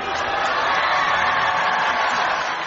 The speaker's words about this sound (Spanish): y así concluía la Eucaristía de clausura, entre los gritos de júbilo de los polacos presentes en Río de Janeiro.